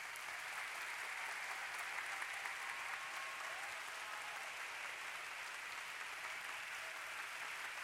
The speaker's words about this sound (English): Stop. Put your hands by your side. Now clap your hands with all of your strength.